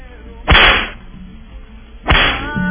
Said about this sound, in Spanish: Entonces, claro, ¿qué podemos hacer de esto? Latigazo, definitivamente.